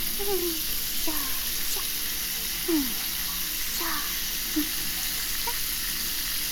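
Steady shower water streams and splashes in a continuous hiss as it rinses soap suds off someone being washed, with faint sliding tones and soft movement sounds scattered over the spray; no one speaks.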